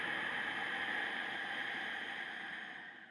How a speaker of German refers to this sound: Durch die Nase ein, durch den Mund aus, auf halbem Weg der Ausatmung den Mund schließen, dieses Rauschen in der Kehle aber stehen lassen.